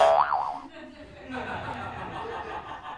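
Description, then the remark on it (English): A toy spring boings once with a bright wobbling warble that rises and falls quickly, followed by soft muffled chuckling and low background murmur. “I'm going to have to take that toy away if it's going to interfere with having listening ears on.”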